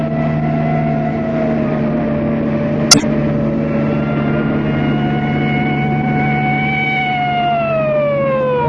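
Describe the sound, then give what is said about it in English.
A police car siren wails steadily for several seconds, its tone drifting slowly in pitch over a low engine rumble, with one sharp click partway through and no voices. “Anyway, we can't run away from a police car and a station wagon.”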